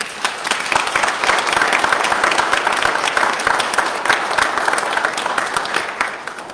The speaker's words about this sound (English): So we want to give a special thank you and a great round of applause